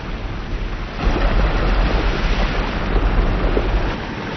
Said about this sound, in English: The waterfall is most important. Mixes the chocolate, turns it out, makes it light and frothy. By the way, no other factory in the world mixes its chocolate by waterfall, my dear children.